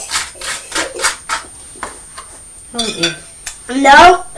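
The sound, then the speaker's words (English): A string of sharp, irregular clinks and taps as a young boy knocks about a glass of lemonade, followed by a couple of short high-pitched vocal bursts from the child. “You're making a lot of noise with that lemonade, young man.”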